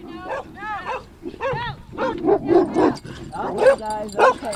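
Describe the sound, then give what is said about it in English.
Dogs at a makeshift camp on a dirt field by railroad property bark, yip and whimper excitedly, a rapid overlapping run of high-pitched whines and short barks that carries on without pause. “Be cautious of the dogs. Oh, here they come.”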